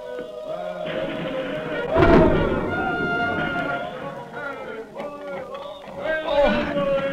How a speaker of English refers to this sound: Thus followed the famous Battle of Monmouth. It is in the thick of the battle, and the day is hot and sultry. One of the American gunners named Hayes is at his post firing the cannon.